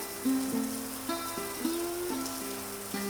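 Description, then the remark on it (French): Steady rain hisses in the background, a constant wash of drops, while a slow, simple melody of sustained notes plays over it. “Il pleut. C'est monotone.”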